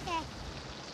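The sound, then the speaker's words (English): Steady rain hisses across the whole second as an even, dense wash of noise, with a brief high voice-like tone near the start. “Still want to go in the rain?”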